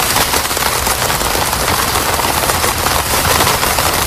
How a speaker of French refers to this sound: La pluie sur une tente. Sur une tente, hein. Voilà, très bien.